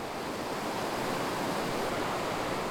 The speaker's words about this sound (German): Weiter unten wird es dann wasserreich. Denn was oben am Gletscher schmilzt, schießt unten durch die enge Schlucht der jungen Isel.